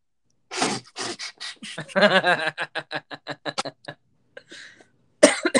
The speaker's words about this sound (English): Sorry I keep coughing. I think I've got that, like, Christmas illness that's going around.